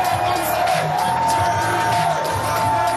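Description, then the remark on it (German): A large crowd of Andrew Young's supporters cheers and whoops steadily at a US presidential campaign event as he ends his presidential bid, a dense wash of shouting voices with occasional higher yells rising above the roar, sustained and loud throughout. “Selbst bei Andrew Young wurde diese Woche gejubelt und das, obwohl es gar nichts zu jubeln gab.”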